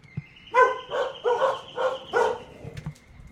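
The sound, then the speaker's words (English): Dogs outside barking after a button is pressed: four loud, evenly spaced barks in a quick rhythm, each a short harmonic yelp, with a faint steady high tone underneath and no talking. “but I can make them bark. I can make them bark. I just have to hit one button.”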